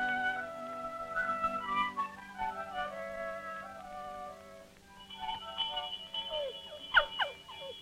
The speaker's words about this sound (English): Do you hear that sound, dog? That's one of the best sounds there is. A farm dinner bell.